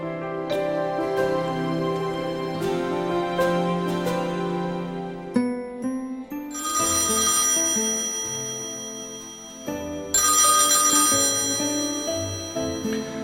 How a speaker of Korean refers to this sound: 지금은 골동품 가게에나 있을 법한 기계식 전화기에 전화벨이 울렸다. 당연히 동그란 다이얼이 달려있고 번호를 돌리면 도르르르 도르르르 우물 속으로 두레박이 굴러 떨어지는 것 같은 소리가 났다.